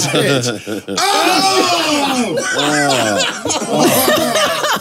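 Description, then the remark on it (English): Loud coughing and spluttering in a studio as someone chokes out biscuit crumbs, with sharp bursts mixed among strained, wavering vocal noises and half-laughing gasps, continuing for several seconds. “Like a baby bird coughing up something.”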